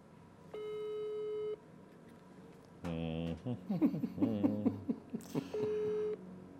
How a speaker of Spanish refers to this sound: A ver, marquémosle por WhatsApp. Ándale, WhatsApp, sí. A ver si esto funciona.